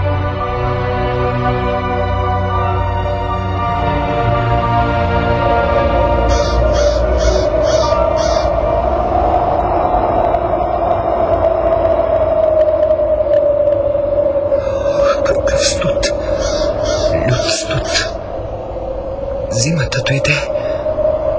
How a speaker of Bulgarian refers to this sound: Вятърът е леден.